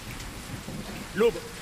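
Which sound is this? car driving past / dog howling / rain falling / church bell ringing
rain falling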